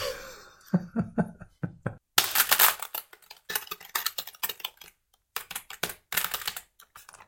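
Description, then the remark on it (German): Rapid keyboard typing of a word in uneven bursts, clicky keystrokes clustered with short pauses between, clear, with no voices. “Ja, obwohl ich sehr, sehr lange getippt habe.”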